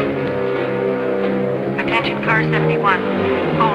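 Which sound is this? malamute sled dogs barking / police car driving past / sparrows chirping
police car driving past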